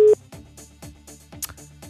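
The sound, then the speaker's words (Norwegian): A telephone ringing tone on an outgoing call to a participant during a radio broadcast: a short, steady electronic tone at the start, then rhythmic tonal pulses and clicks on the line, with no talking. “Christian Dean heter dagens deltaker vi skal ringe opp.”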